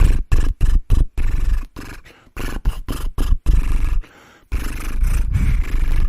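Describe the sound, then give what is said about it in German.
A voice does a lip trill imitating a horse as a vocal warm-up exercise for the lips, buzzing lips carrying a sung melody in a series of loud, choppy bursts with brief gaps, then a longer sustained trill. “Und dieses Pferd können wir auch mit einer Melodie machen.”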